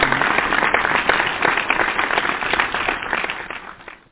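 A crowd claps steadily in dense, overlapping applause that holds at a fairly loud level for about four seconds before tapering off at the end.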